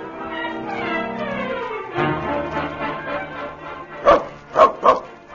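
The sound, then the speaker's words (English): A dog whines and growls in rising, pitched tones, then lets out three sharp, loud barks in quick succession near the end. “You had no right to bite my dog just because he took a little old bite out of you.”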